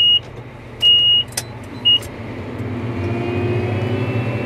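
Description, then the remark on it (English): A heavy engine of a tracked Caterpillar farm tractor on huge treads rumbles steadily and swells louder partway through, while a few short electronic beeps sound early on; the tractor plows and plants crops guided by GPS satellites. No one speaks. “It lumbers along on huge treads and will plow and plant crops guided by a group of satellites overhead, the Global Positioning System.”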